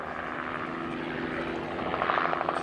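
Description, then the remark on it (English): A helicopter drones steadily overhead, its engine whine and rotor chop forming a continuous, fairly loud roar, with the rhythmic blade thumping growing slightly more pronounced toward the end. “At the time, there are very few chopper pilots in New Zealand. Fewer still flying in the mountains.”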